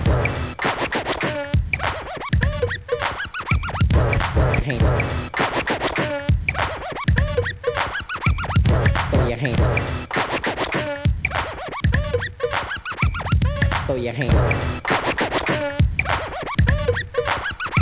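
A DJ's rapid turntable scratching cuts up and chops the beat at a party, with quick back-and-forth cuts that sweep up and down in pitch, loud and continuous over steady drums.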